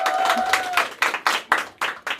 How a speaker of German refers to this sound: Für jede Folge finde ich den Applaus am Anfang jetzt, finde ich gut.